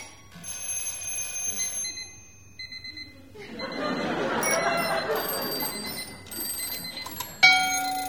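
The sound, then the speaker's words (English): Alarm clock bells, on old and new alarm clocks, ring out one after another at different pitches, playing an old Italian song in the stage show Aurelia's Oratorio, with a soft rushing clatter underneath midway and a sudden sharp ring near the end. “There are many poetic elements in it, like the scene in which Aurelia plays an old Italian song on her alarm clocks, old and new.”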